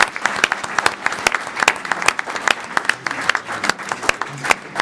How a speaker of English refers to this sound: Let us give one big round of applause to our four terrific panelists.